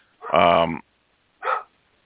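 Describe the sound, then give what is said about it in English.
A dog barks twice, first a long, loud, drawn-out bark, then after a brief pause a shorter, quieter one. “Hang on a minute, I got a barking dog.”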